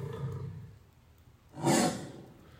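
lion roaring

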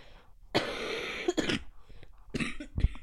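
cough

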